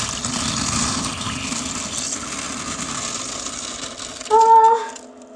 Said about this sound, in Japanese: じゃあちょっとこのビニール袋を便器の中に入れて、よいしょ。じゃあ収録してい、あ、収録じゃない、おしっこしていきます。間違った。今ちょっと必死でした。よし。じゃあ、おしっこします。あ、入んないかな。よし。